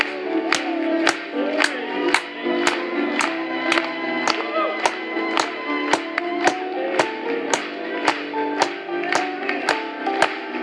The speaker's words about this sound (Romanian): Hai să aplaudăm lui încă o dată.